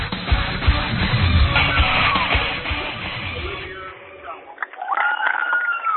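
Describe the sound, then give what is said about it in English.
A loud, amped-up crowd at a high school basketball game cheers and yells in a dense roar for several seconds, then thins out as a few voices and tonal whoops carry on near the end. “squeak of the sneakers, the swish of the nets, bounce of the ball, and amped up crowd can only mean one thing.”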